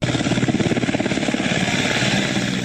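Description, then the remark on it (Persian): A Taliban helicopter's rotor thuds in fast, steady pulses during flood rescues in eastern Afghanistan, loud and continuous with a broad engine roar underneath, the chopping rhythm slightly blurring toward the end. “در یک ویدیو دیده می شود که شماری از افراد به سوی هلیکوپتر طالبان می شتابند تا به جای مسئول منتقل شوند.”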